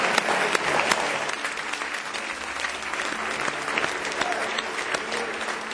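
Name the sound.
audience hand clapping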